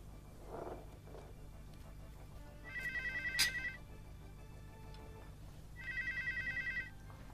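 A telephone rings twice, each burst a warbling electronic trill lasting about a second, separated by a pause, over a low steady room hum with no one speaking.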